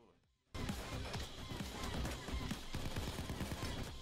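After a brief moment of silence, loud video game gunfire erupts in a dense, rapid fusillade of overlapping shots that continues without pause to the end.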